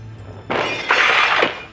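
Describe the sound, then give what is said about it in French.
A window shatters in two bursts: a sudden crash followed by a louder, bright spray of breaking glass that rings briefly before fading. No one speaks. “Une fenêtre. C'est ma porte de sortie.”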